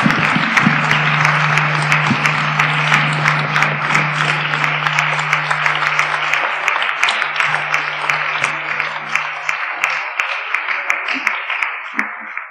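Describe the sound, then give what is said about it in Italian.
An audience applauds a professor's talk at the close of the Wednesdays of Santa Cristina lecture series, steadily for about twelve seconds, a dense, even wash of many hands clapping, with a low steady hum running beneath most of it before fading out. “Allora possiamo concludere applaudendo di nuovo l'intervento straordinario del professore.”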